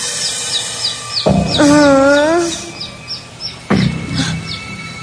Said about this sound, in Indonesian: Sekitar jam 1 malam, aku terbangun karena mendengar suara anak ayam yang begitu keras.